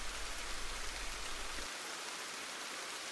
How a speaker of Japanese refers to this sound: なんだ、雨が降ってきたのか。 雨は好きだよ。なんか流されてく感じがさ。